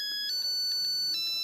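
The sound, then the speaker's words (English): A musical egg timer, boiling in the water with the eggs, signals that medium-boiled eggs are ready, playing a bright, high-pitched electronic tune, short chiming notes pulsing in a steady rhythm over a sustained tone, with no voices. “Medium boiled eggs are ready.”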